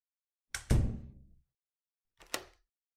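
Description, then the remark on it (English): A door swings shut backstage with a heavy, booming thud that rings briefly, followed a moment later by a short, sharp click like a lock being turned. No voices. “Lock it, will you?”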